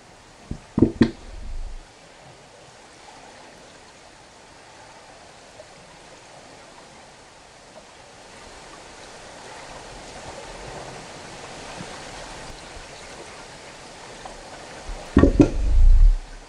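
An underwater seal recording made in Stockholm: a steady watery hiss with a soft bubbling swell in the middle, framed by short, loud knocking bursts near the start and again at the end.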